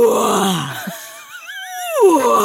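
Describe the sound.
A person imitates a lion's roar: a falling growl-like groan, then a higher, quavering held tone with a wobbling vibrato that swells and drops away, lasting a couple of seconds.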